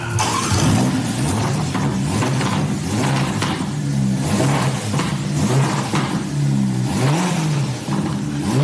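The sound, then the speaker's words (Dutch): A sports car engine revs up and down repeatedly, its exhaust crackling and popping between throttle blips, loud with no voices. “Dat is een beetje knallende uitlaat. Pops en bangs.”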